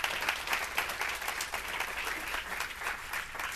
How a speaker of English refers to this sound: Let's give the Lord a hand clap of praise for what he's done in our life.